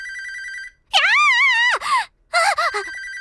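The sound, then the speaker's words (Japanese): A telephone rings at the Namco Production office with a steady electronic tone, then a wavering, vocal-like cry swoops up and down, followed by short groaning sounds before the ringing tone returns. “電話か。”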